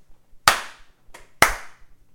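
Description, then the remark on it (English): Three sharp hand slaps in an uneven rhythm, loud, the middle one noticeably softer, with quiet pauses between them and no talking, given as a three-out-of-five rating of a diner. “Give me your slaps and snaps on these the fantastic Tom's Diner.”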